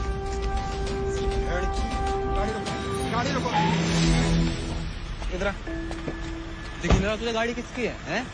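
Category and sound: vehicle, car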